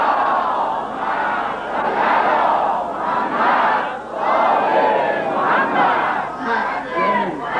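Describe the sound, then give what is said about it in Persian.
A large crowd chants a salawat for Imam Zaman together in unison, a loud, continuous wall of many voices rising and falling in rhythmic phrases for several seconds. “بعضی ها سلوات میفرستن ها، اما این اون مایه که نید تو آبه همین لبه به هم بخوره صدا در نمید سلوات امام زمانی بفرستین.”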